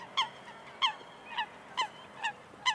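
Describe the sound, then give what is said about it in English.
A duck quacks six times in a steady, evenly spaced rhythm, each call loud and nasal, with a faint hiss of background between calls and no talking; one of four ducks from Washington Market in New York kept at home. “He famously went to Washington Market in New York and brought home four new quacking roommates who raised, Mark said later, quite a racket.”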